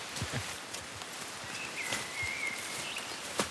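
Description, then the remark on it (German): Footsteps crunch and rustle through undergrowth as people walk with big strides along a totally overgrown forest path with puddles, sticks and branches, a steady series of soft steps over a constant leafy background hiss, with a faint whistle-like tone briefly in the middle. “eilt jetzt mit ganz großen Schritten voraus. Und wir gehen hier wirklich jetzt Waldwege”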